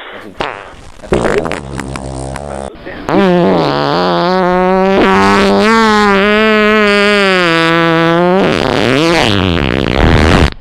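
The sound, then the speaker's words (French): Sputtering, rattling bursts give way to one long, loud, buzzing fart with a wavering low pitch, sustained for several seconds before trailing off. “Mon moteur pétait à peu près comme ça.”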